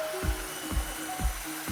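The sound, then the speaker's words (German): A core drill grinds a hole through a wall for a water connection, its steady motor hum broken by rhythmic, heavy churning bursts about twice a second, with no voices. “Ah, erstmal schön Kernbohrung durch die Wand, so muss das sein.”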